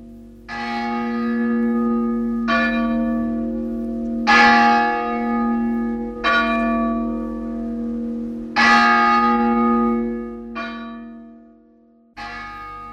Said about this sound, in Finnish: asia sitten niin tai näin, totta on, että kerimäkeläiset ovat ylpeitä suuresta kirkostaan, ja he ovat kunnanvaakunansakin aiheeksi valinneet kirkkonsa malmisen kellon, jonka kumahtelu korkeasta tapulista kiirien on heille tullut tutuksi ja rakkaaksi.